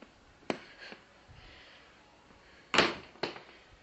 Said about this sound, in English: Okay, this is really silly. I cannot find the little latch that lifts up the barn door. Oh, maybe it's over this way. Oh, yes, it is. Here we go.